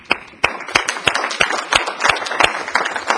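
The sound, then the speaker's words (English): An audience claps their hands together in a steady, sharp rhythm, loud bursts roughly every third of a second over a dense wash of scattered individual claps, clapping to God after a reading of Psalm 47, 'Clap your hands, all ye people.' “What we're doing is we're clapping for a reason.”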